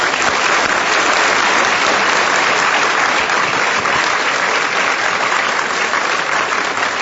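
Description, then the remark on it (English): Sustained, loud audience applause for a discussion panel at an Inforum meeting of the Commonwealth Club fills the whole stretch, a dense steady wash of many hands clapping with no break and no voices standing out. “Yeah, have more discussions like this, but regrettably, we've reached the end, and I would like you all to give a big round of applause to our panel.”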